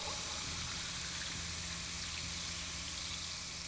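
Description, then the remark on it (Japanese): Steady bubbling, fizzing water with a constant low hum underneath, a continuous wash of small bubbles at an even, moderate level and no voices. “泡の音が下半身から駆け上がり、頭の中まで響いている。”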